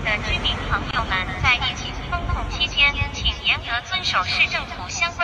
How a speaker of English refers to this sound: Another thing that people have been talking about is this footage of a drone that was circulating around a high-rise neighborhood.